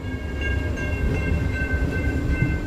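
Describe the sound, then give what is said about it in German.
A passenger train in Alaska, travelling from Anchorage to Seward, rolls along the tracks with a steady, heavy low rumble and a thin, high metallic whine running through it, continuous and even throughout, with no voices. “Der Zugführer sei stets darauf gefasst, für sie zu bremsen.”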